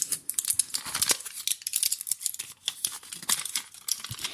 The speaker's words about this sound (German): Und zwar war das eine Packung mit Medikamenten. Also das waren einfach so mit so aus diesem Plastik. Und das hat sich ich fand, das hat einfach ganz tolle Geräusche gemacht.